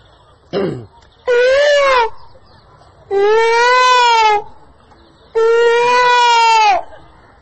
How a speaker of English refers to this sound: But if you stay here, first thing all night long you hear the peacocks.